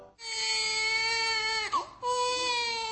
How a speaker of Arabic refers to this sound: لحظة سكون أو بكاء لهذا الطفل، واللحظة ذاتها لحظة ابتهاج وفرح لوالديه، إنها لحظة الميلاد، لحظة يضيف فيها المولود رقما لسكان المعمورة.